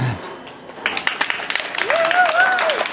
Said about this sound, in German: Also einen ganz großen Applaus wirklich für das Podcast-Subi.